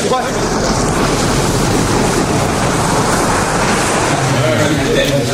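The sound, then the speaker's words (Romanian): Loud, continuous wash of ocean waves and wind around an empty, still-rocking boat, a dense steady roar with no pauses, enveloping for the whole stretch. “În zare se vede o barcă, oceanul să mă uit. Barca e goală, se clatină încă.”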